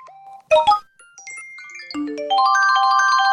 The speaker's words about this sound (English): So you're probably freaking out as my phone is making all these noise and wondering if it's your phone that's making all these noise and thinking to yourself, oh my God, it's a text message. It's a DM. It's a God knows what.